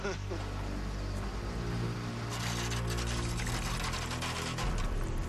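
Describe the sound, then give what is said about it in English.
Fuel dripping and splashing steadily from the tanks of an Electra aircraft, a continuous liquid patter over a low, constant mechanical hum, with faint voices in the background. “That is a lot of drippage. Fuel is dripping from the Electra's tanks.”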